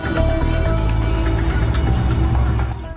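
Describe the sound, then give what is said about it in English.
A car engine rumbles steadily, a low droning hum that holds for a few seconds before fading as the car drives off. “drives off.”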